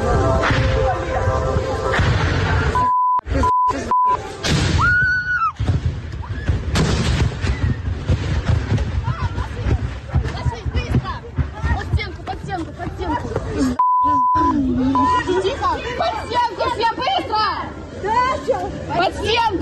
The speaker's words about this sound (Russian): Люди в панике пытаются укрыться от осколков ракет у стены. На фоне слышно, как разрываются кассеты.